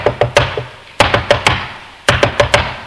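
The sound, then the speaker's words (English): Three quick bursts of firm knocking on a hard wooden surface, about four raps, then three, then four, loud, with a short echo and no voices. “In days gone by, we'd have gone out, we'd have knocked on every door.”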